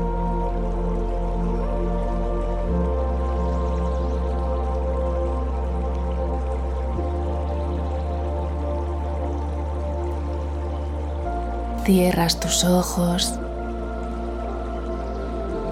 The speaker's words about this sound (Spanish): Mientras de fondo escuchas el agua relajante del riachuelo.